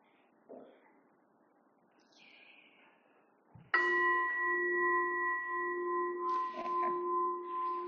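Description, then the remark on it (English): A single meditation bell is struck once to begin a meditation session, clear, its bright metallic tone ringing on and slowly shimmering for several seconds after a few faint rustles. “And then I will ring the bell once to get start.”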